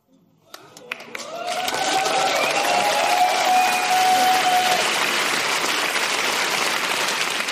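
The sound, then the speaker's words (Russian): An audience in a hall breaks into applause as Leysan Utyasheva is called onto the stage: a few scattered claps at first, then it swells within a second into loud, dense, steady clapping that carries on to the end, with some voices calling out underneath. “Аплодисменты, ребята!”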